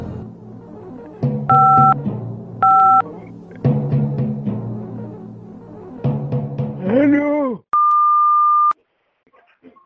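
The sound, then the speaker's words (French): A single steady electronic answering machine beep, about a second long, sounds loud and clear on its own after a recorded greeting with voices and background music, then near silence follows. “Laissez votre message. Après le bip sonore.”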